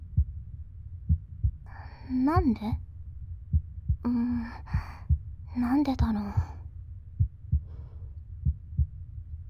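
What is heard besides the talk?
heartbeat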